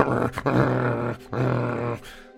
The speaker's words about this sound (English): Maybe Stormak's helping him pick out spices and chopping potatoes and stuff, when Daisy starts looking really nervous. The hair stands up on the back of her neck, and she starts growling, looking around. What is it, Daisy?